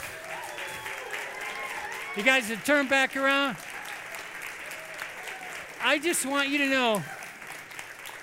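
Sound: audience applauding and cheering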